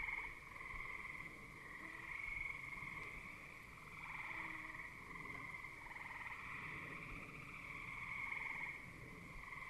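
A dense evening chorus of frogs: gray tree frogs give steady high trills, bullfrogs sing low croaking tones, and green frogs make occasional plunking calls, continuous with no voices.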